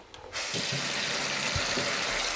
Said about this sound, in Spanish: Abro el grifo. Cierro el grifo. Bebo agua.